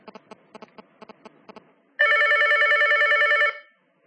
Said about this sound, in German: Wesentlich ist, dass das Handy jetzt, das Alto 2, jetzt geläutet hat, aber nur einmal und vor dem Läuten auch keinen Absender benannt hat, obwohl es von einem Absender kommt, der im Telefonverzeichnis enthalten ist.